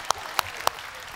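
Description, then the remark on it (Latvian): Audience applause: three sharp, evenly spaced claps stand out over a soft, steady wash of clapping in the background, brief and moderately quiet. “Iedosim aplausu kanānietim.”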